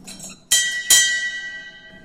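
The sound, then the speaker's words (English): A brewery bell at the Pilsner Urquell brewery is struck twice in quick succession to signal that a brew of beer is finished, loud, each clang leaving a bright metallic ring that hangs and slowly fades into quiet. “This bell means that the brew is done.”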